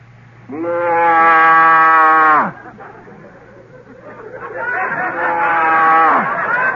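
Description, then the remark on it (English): A voice imitates a cow mooing: one long, steady, loud moo, a brief pause, then a second, wavering moo, clear with faint background hum. “Give us the cow.”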